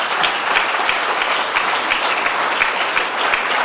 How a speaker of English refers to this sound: Come on, get up so we can all give you a clap. Please.